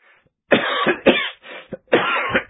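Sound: coughing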